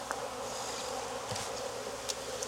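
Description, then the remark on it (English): A dense, steady swarm of honeybees buzzing at an opened hive while the beekeeper smokes them and shakes their brood, a continuous low drone with shimmering higher hum and brief louder passes of individual bees, no voices present. “I'm standing in front of their hive and disrupting and taking my time talking on camera, so there's a reason for them to be upset. And I'm shaking their babies.”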